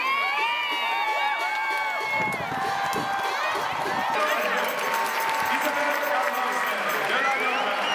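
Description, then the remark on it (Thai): A large stadium crowd of Thai football fans roars and cheers loudly and continuously at the Thailand vs Norway women's match after Thai goalkeeper Waraporn Boonsing saves a Norwegian penalty in the 75th minute, many voices shouting and whooping together, the noise swelling even louder midway through. “โดยเฉพาะในช่วงที่โกของไทยวราพรบุญสิงห์สามารถเซฟลูกจุดโทษของนอร์เวย์ได้ในนาทีที่75ซึ่งกองเชียร์ไทยส่งเสียงเชียร์ดังสนั่นอัศจรรย์ดังยิ่งกว่าตอนที่นอร์เวย์ทำประตูได้สิครับ”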